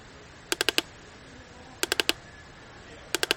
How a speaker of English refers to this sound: Now we need to cook the corn. Let's put it in the oven and shut the door. Turn the dial all the way up to 10.